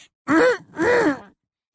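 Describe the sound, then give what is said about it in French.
Umbridge's prim, affected little fake cough, heard by Hagrid beside the thestrals: two short voiced throat-clearing bursts in a quick pair, mid-pitched and fairly loud, with nothing else around them. “Hagrid, qui n'avait encore jamais entendu la fausse toux d'Ombrage, observait avec inquiétude le sombral le plus proche, croyant que c'était lui qui avait toussé.”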